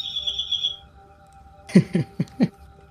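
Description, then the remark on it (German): A bird clock in the kitchen sounds the hour: first a steady, high whistled note, then after a pause four quick, bright chirps in a rapid row. “Wir haben eine Vogeluhr in der Küche. Ah ja. Ah, okay. Und wenn die Vögel zwitschern, ist es Zeit.”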